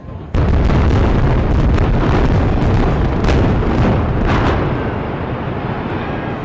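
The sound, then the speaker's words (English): A demolition blast using 450 pounds of explosives brings down the 854-foot concrete R.E. Burger smokestack of a retired coal-fired power station on the Ohio River: a sudden loud boom gives way to a sustained, deep rumbling roar with scattered crackling bursts that slowly eases off. “It took 450 pounds of explosives to drop the concrete stack that created steam to generate electricity.”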